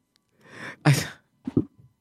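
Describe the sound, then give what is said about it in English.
A single loud sneeze: a breathy intake of air followed by a sharp, explosive burst, then a couple of short, quiet vocal sounds as it settles. “They used to have a laugh button on the control board, so when the host laughs at his own jokes, it's like they have a sneeze button, so when you sneeze, you push that button.”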